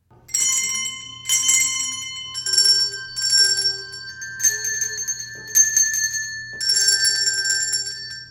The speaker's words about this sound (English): We play bells.